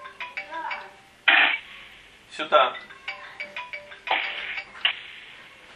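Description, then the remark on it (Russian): A phone rings in electronic bursts, a few tonal rings repeating over several seconds, with people talking through and around the ringing. “пожалуйста, подойди к телефону.”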